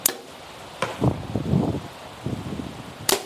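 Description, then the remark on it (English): Sharp, brief impacts at the start, near the middle and at the end, like arrows released or striking, with softer rustling and wind-blown noise between them outdoors, as arrows are shot from a bow at a target in rain and wind. “We're shooting in the rain and the wind.”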